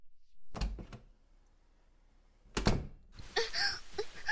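A door is shut with two heavy thuds about two seconds apart, the second one louder, followed by a person's drawn-out vocal sounds.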